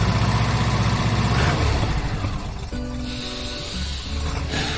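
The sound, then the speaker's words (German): A car engine hums steadily and loudly on a five-hour drive from the Netherlands to Adorf at the Diemelsee in Germany, a low rumbling drone that shifts slightly in pitch midway as if changing gear, with no voices present. “ins Auto und düsten zu uns an den Diemelsee”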